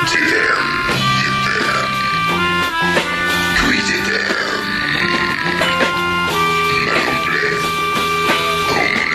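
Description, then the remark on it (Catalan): A sexy song performed in belches: guttural, croaking vocal notes held at steady pitches, one after another in a melodic line over dense accompaniment, loud and continuous throughout. “La cançó sexy, canten amb rots.”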